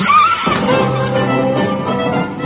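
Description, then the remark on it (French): A person imitates a horse's neigh, a loud vocal whinny with a rising squeal that breaks into a shaky, trembling whinny lasting a couple of seconds. “Faites-moi le cheval.”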